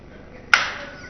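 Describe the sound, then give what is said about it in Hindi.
One sharp hand clap, clapped off the beat, leaves a brief ringing tail as it fades. Nothing else is heard around it. “और वहां पे आपने उल्टा सीधा ताली बजाया वो कीर्तन बंद कर देंगे.”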